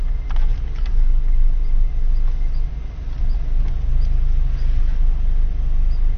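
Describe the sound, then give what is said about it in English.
A car engine rumbles steadily, a low continuous drone that swells slightly as the car behind drives along the road going the other way during a leopard sighting, with faint outdoor background noise and no talking. “Car behind, but it's going the other way.”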